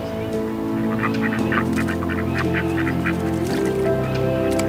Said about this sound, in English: All the kids are standing around the pond and they're throwing bread in and the ducks are fighting to get a meal.